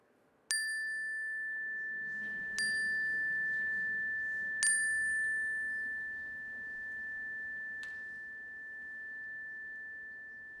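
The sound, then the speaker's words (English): A bright metallic chime is struck four times at irregular intervals, each strike ringing out with a long, sustained tone that lingers and slowly fades, heard alone during a prayer gathering. “I invite you to call them to mind now and speak them aloud as the chime rings so that we can hold them with you.”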